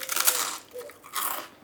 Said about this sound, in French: C'est bien quelqu'un qui mange un biscuit.